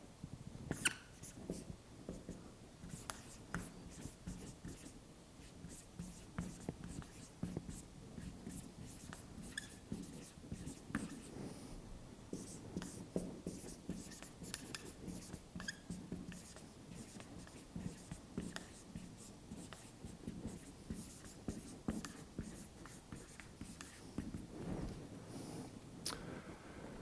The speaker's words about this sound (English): I will write the inscription in English, and here's what it said.